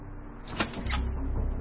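A door handle rattles and the unlocked door of a house creaks open, with a few short clunks and scrapes over a low rumbling background.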